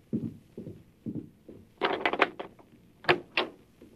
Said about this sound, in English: Who is it? Open the door